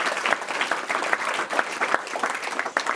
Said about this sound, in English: So here's a big applause for all of us who are interested so much and dedicated to our environment. So let's give us applause.